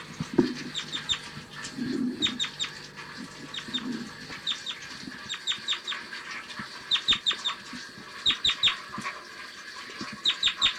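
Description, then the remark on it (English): Bursts of short, sharp bird flight calls repeat in quick clusters, clear, over a steady background hiss with a few low thumps early on. “Typical flight call.”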